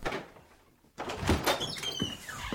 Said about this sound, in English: The world was quiet. Everyone waited. Then, at the back of the sanctuary, a door opened.